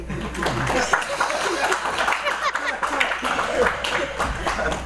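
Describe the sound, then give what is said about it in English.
An audience claps steadily for several seconds, a dense, even patter of many hands with a few murmured voices and light chuckles mixed in. “Please applaud.”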